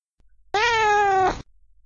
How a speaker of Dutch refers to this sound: De kat behoort tot de familie der katachtigen, Felidae. Een kat maakt het volgende geluid.